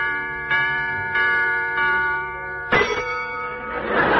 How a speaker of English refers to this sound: Hickory dickory dock, the mouse ran up the clock. The clock struck four. The clock struck four. The clock struck four.